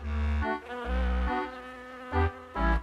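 A fly's buzz, loud, rising and falling in several bursts with brief dips between, as if the insect is darting around.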